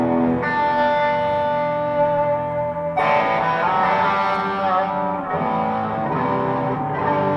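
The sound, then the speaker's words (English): A heavily distorted electric guitar played through a Morning Glory and a Klon overdrive pedal rings out in thick, sustained chords, with constant delay repeats smearing each strum into a dense wash. It stays loud and steady throughout, with a fresh attack about midway. “That's pretty much all of my heavier. So you add the delay in constantly.”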